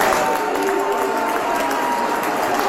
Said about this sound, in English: Yeah, that was a pretty big consensus booing, I have to say.